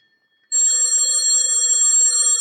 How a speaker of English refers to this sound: Telephone's ringing